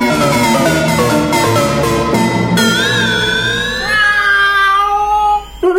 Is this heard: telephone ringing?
no